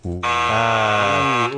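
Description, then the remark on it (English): A loud, harsh game show buzzer blares once as a player buzzes in for a steal during a Zelda music quiz, a dense, raspy electronic tone lasting about a second and a half that shifts pitch slightly partway through before cutting off. “Brett's buzzing in for the steal.”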